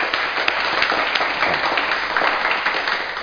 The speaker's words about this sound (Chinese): 我哋俾啲掌声喺海外参加我哋嘅。